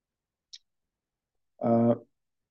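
A single crisp computer mouse click sounds near the start, sharp, as someone browses an online course catalogue, followed a moment later by a brief burst of a man's voice.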